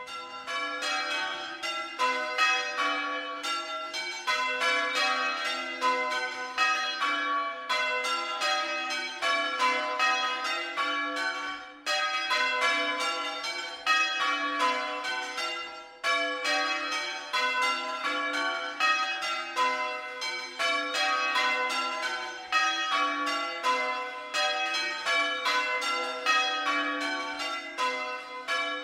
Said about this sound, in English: Here, for example, is the peal of bells in the Church of St. Bartholomew the Great in Smithfield, which of course doesn't stand very far from here. The bells in this peal are all pre-Reformation.